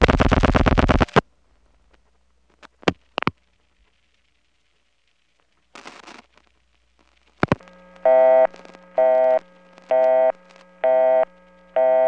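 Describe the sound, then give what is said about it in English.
A telephone busy signal beeps in steady, evenly spaced on-off bursts, five of them, preceded by mechanical clicks and scratchy switching noises on the line, on a call dialed from an ESS switch through a crossbar 5 into a PBX. No one speaks. “Boy, all that explanation and I just got a busy signal.”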